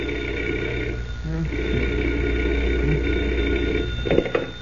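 A telephone bell rings at 5 o'clock in the morning, rousing Clark Kent from bed, in one long, steady, buzzing trill that holds for several seconds at an even loudness, with no voices over it.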